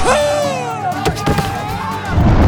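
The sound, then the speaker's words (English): Several sharp gunshot cracks burst out in a quick cluster midway through, inside a train car during a train robbery, leaving two men shot dead, over a wavering, voice-like tone and a low rumble that continue throughout. “Clay and Dooley are both shot dead.”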